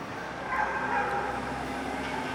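A dog barks somewhere in a busy, steady background din, the barking blending into the constant ambient noise rather than standing out sharply.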